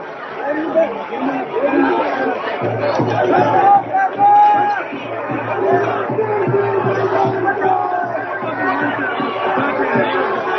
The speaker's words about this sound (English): Big crowd there, big crowd.